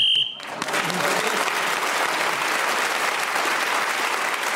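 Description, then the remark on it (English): A single short, shrill whistle blast, blown to end the round, cuts off abruptly and is immediately followed by loud, sustained applause from a crowd. “So Paul Merton was speaking as a whistle and gained the extra point.”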